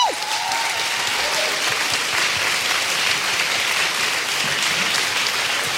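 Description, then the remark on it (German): Sustained audience applause as guest Hinak Köhn is brought onto the stage, a dense, steady wash of many hands clapping at an even loudness throughout, with no voices standing out. “Aber jetzt erstmal einen Riesenapplaus für Hinak Köhn.”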